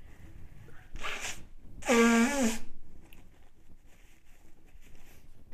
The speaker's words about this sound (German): Ich muss mir kurz die Nase putzen, sorry.